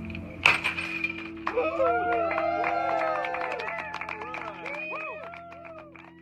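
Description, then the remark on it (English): A single sharp smash of a champagne bottle broken against the hull of OceanGate's Titan submersible by its director of engineering at a christening, followed at once by a crowd cheering, whooping and whistling for several seconds, with voices mixed into the noise. “OceanGate's director of engineering, who lifted a bottle of champagne and smashed it against the hull.”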